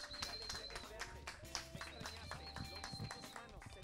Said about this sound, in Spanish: Aplauso para él.